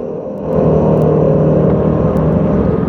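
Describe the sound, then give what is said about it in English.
A steady black cab taxi engine drone with a low rumble that swells after the first half second, then holds at a constant, fairly loud level, as the taxi drives round a corner following the number 73 bus close behind it. “The elderly taxi driver follows the number 73 bus, close behind it.”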